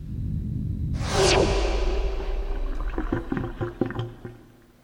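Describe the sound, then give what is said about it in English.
A black hole sucking sound effect, cued as a joke about smashing subatomic particles at the LHC: a loud, sudden whoosh that sweeps downward in pitch over a deep rumble, trailing off into scattered crackles and clicks. No one speaks. “Okay, now you can cue the black hole sucking sound.”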